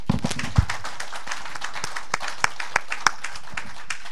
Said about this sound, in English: Can you please clap? Aha, clap very well. Make it very loud. That is what fathers are like without the mothers. That is why there's always a point of deficit when we try to do it alone. Please, can we clap with two hands?